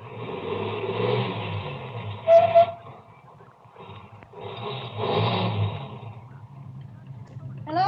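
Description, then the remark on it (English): A car engine rumbles steadily, swelling louder as the car, having passed, turns around and comes back, then easing down and idling as it comes to a stop, with no voices. “Ahead, the car that passed me slowed down and it also stopped. Then turned around and came back toward me.”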